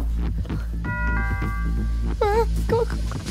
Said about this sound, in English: Ring the doorbell.